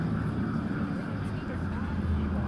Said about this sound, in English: Listen to the traffic. Yeah. This does sound like L.A.